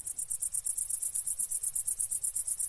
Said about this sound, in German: Und bei der Grille klingt es unschlagbar gut.